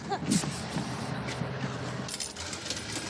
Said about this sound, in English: Just ride to the end of the line. Take a break from everyday life in the ghetto. There go the bus. Yeah, let's go.